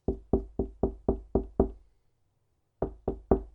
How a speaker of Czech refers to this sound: Vlk pak šel rovnou cestou k babičce a zaklepal na dveře.